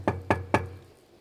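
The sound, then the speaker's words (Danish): Three firm knocks on the heavy door of a fortress-like building, evenly spaced, each with a deep resonant thud that lingers briefly before fading into quiet; no one opens. “Og selv de steder, hvor det lykkes at komme hele vejen hen til døren, han kan banke på...”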